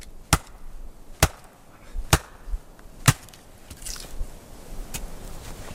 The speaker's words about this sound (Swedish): Med van hand hugger Marcus upp ved till en värmande brasa.